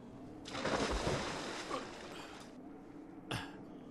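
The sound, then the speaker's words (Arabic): A bucket is thrown down into a water well and plunges in with a loud splash and a couple of seconds of churning water, followed by a brief second slosh. No one speaks. “دعني أستخرج دلو ماء من هذه البئر. عذرا، أنا لم أعد قادرا على الحركة. دعني إذن أرمي الدلو.”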